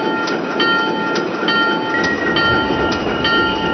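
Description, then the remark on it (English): A train rolls toward the United Nations station with a loud, steady rumble, thin metallic whining tones, and intermittent rhythmic clacks from the wheels on the track, without voices. “Heads up, we're approaching the United Nations station.”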